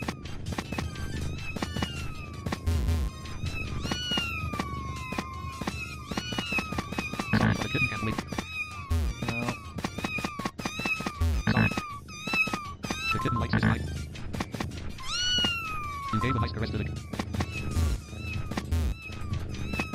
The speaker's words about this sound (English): Good, this kitten is so happy.